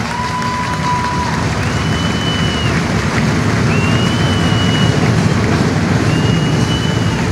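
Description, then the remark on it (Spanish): A crowd applauds the people of Gualeguaychú and visitors from elsewhere in the province in a steady, dense roar of clapping that holds for several seconds, while a few long, high whistles ring out over it at intervals. “Vamos a hacer un fuerte aplauso también.”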